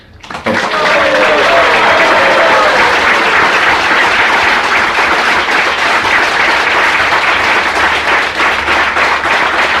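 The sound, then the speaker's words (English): A crowd breaks into loud, sustained applause for Shri Prahlad Prabhu at an evening kirtan program, dense clapping that starts abruptly and holds steady for several seconds, with faint voices mixed in near the start. “So please give a big round of applause to Shri Prahlad Prabhu.”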